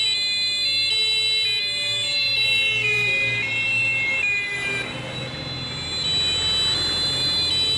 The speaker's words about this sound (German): Laute Sirenen erklingen, von überall kommen Polizeiautos.